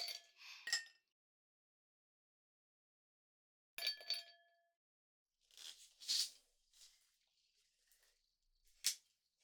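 Glassware clinks and rings a few times, then a non-alcoholic drink is poured into a glass in a short, hissing splash, followed by a final light tap of glass. Quiet, with no talking.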